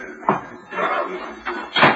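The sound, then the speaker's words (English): A door swings shut with a solid thump, followed by a second knock a moment later, with a soft rustle of movement between the two impacts. “Close that door”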